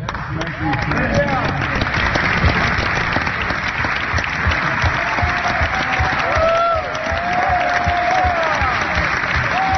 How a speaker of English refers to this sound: James Clyburn from South Carolina, they actually turn to the media and start applauding the media, which just demonstrates exactly what this is.